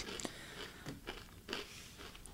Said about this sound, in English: Okay, just, I have food. If you hear chewing, my deepest apologies.